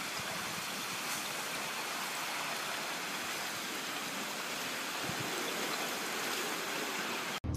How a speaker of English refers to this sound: These people witnessed a huge ice drift on this river in Russia.